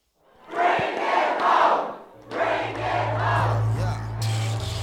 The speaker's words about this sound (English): It was tears, cheers, and hugs as Tallahassee Mayor Andrew Gillum celebrated his victory in the Democratic gubernatorial primary at a downtown hotel back in August.